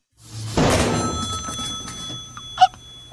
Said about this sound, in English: That's the, by the way, that's the way we should end every phone call on the show from this point forward. We simply throw the phone.